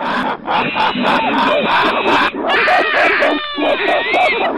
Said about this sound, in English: As I approached the monkey cages, they raised a ruckus again.